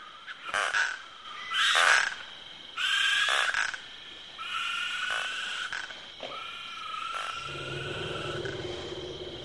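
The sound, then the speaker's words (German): A dense African night chorus of insects, frogs and toads: bursts of croaking and rattling trills overlap steady high-pitched buzzing, with a low hooting tone, among eagle-owls' calls, entering toward the end. No voices are heard. “ein elegantes Zusammenspiel der Klänge, ein orchestriertes Arrangement der Laute von Insekten, Fröschen und Kröten, von Tüpfelhyänen, Uhus, afrikanischen Waldkreuzen, Elefanten, Baumschliefern und in der Ferne brüllenden Löwen.”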